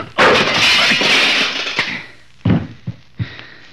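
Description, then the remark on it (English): A punch knocking a man down: a heavy crashing impact with a broad, noisy burst that fades over about a second and a half, followed by several sharp, separate thuds and knocks with short gaps between them. “knocking you down doesn't give me any satisfaction at all.”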